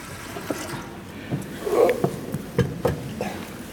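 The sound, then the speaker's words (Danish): Water is poured into a baptismal font during a church baptism in a few short splashing bursts, moderately loud, over a quiet background. “Jeg har ikke fået noget vand i.”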